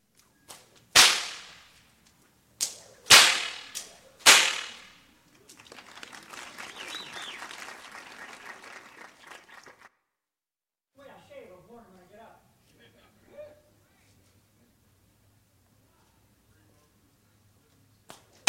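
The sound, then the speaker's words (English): Four loud, sharp bullwhip cracks snap out in quick succession, echoing, during a demonstration of bullwhip popping, followed by several seconds of audience applause and then a few faint voices. “I'm going to give you a little demonstration now about the bull whips and the popping of the bull whips.”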